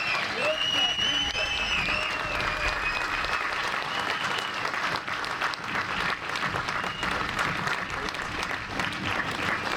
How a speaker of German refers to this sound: Applaus.